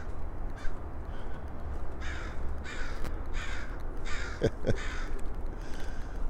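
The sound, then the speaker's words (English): Crows caw repeatedly in the morning in a loose series of harsh calls, some overlapping, set against a steady low outdoor rumble. No one speaks. “Which can take a long damn time when you've got a committee of crows.”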